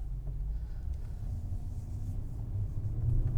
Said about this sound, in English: So today we're out driving the spy car, just in case you're interested. And I have lots of things to tell you about as pertains to the spy car.